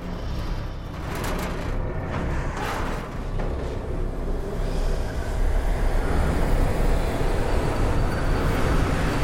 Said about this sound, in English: Do you see that train? Yes. I want you to draw it to us.